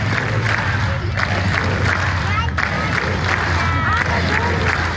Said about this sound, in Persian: این صدای تنها صدها تن از معترضان کاتالان است که روز سه‌شنبه در یک میدان در منطقه در شمال بارسلون گرد هم آمدند و فریاد زدند که رأی دادند.